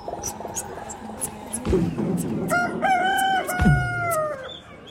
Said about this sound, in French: Il y a les poules juste à côté.